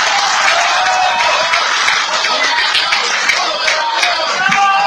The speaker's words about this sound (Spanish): En esta mañana, entre tanta gente buena, entre tanta gente trabajadora y cargados de esperanza, vamos a recibir con un fuerte aplauso a nuestro dirigente nacional. Vamos a recibir al licenciado Andrés Manuel López Obrador.